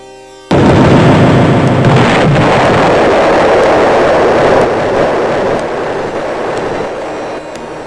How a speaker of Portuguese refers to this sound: A vela que estava acesa dá um pulo de sua mão e cai no barril do outro. Ouve-se uma grande explosão.